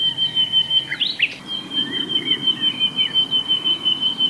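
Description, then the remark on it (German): A nightingale sings a brief burst of sharp, whistled notes near the start, set against a steady, high-pitched continuous trill and a soft outdoor background, with no voices. “Übrigens, es singen nur die Nachtigallmänner.”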